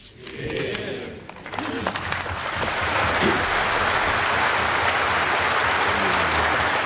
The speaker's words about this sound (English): Tears, cheers and a long, thunderous round of applause erupted when the speech ended.